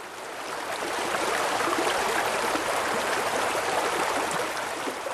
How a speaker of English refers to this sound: It's a relatively healthy river in that we have lots of different varieties of birds and stuff, and we have the ducks, we have the dipper, we have kingfishers. The little grey wagtails were here last night. It's just a lovely stream